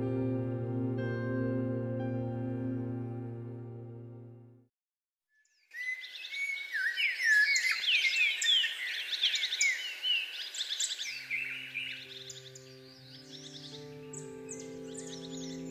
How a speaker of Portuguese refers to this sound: Os pássaros já anunciaram os primeiros raios de sol. Um lindo dia.